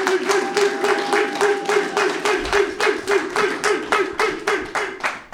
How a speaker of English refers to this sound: Let's give a round of applause to my co-host, one of the baddest working motherfuckers in the land, Mr. Lee Syatt.